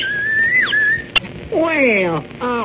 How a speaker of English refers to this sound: Well, a whistle. Yes, but it's a special kind of whistle. Imitates birds. It does. Yes, see, you blow on this end, and it's a meadowlark. Well, I do know. And then you blow on the other end, and you get the whippoorwill.